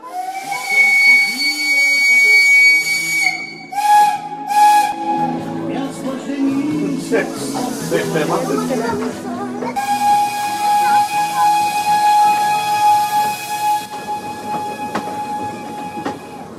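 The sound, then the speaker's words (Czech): A narrow-gauge steam train's whistle sounds loud in two long, steady blasts, with a rush of hissing steam and rumbling train noise between them, on a passenger run to Hůrky. “Na dovolenou sem přijeli až z Plzně s cílem svést se úzkokolejkou.”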